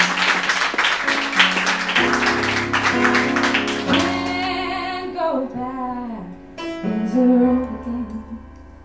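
An audience claps steadily for a few seconds over a musical backdrop, then the applause fades and the instrumental music carries on alone.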